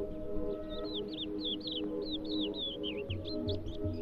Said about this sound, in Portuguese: À medida que caminhamos, há aves que levantam e voltam a pousar mais à frente. Ora, esta é uma característica da tal avezinha que anda por aqui e à qual decidimos hoje dedicar atenção particular.